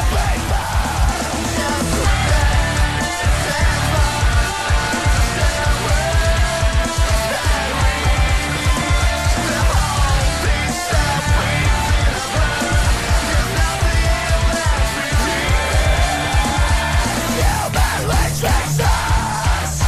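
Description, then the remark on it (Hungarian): A loud, dense recording of a band's own rock song plays throughout, with pounding drums, thick distorted guitars and a strained, shouted-sounding lead vocal singing English lyrics, no speech over it. “És most jutottunk el oda, hogy ez a felvétel, ami a háttérben is szól.”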